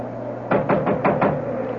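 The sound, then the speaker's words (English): Five sharp, evenly spaced knocks on a wooden door, fairly loud, with a faint steady hum underneath and no voices. “All right, all right. Come along. I'll knock.”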